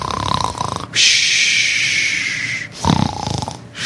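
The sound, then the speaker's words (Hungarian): Loud snoring: a rough, rattling snore, then a long hissing breath out, then another guttural snore starting, with no talking. “Olyan hangosan horkolt, hogy még a vihartól is hangosabb volt.”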